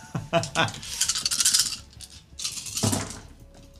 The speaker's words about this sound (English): just rolling ones and twos out of like 12 dice.